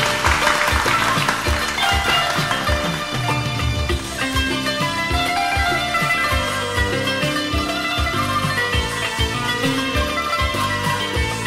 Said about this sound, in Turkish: bir alkış lütfen.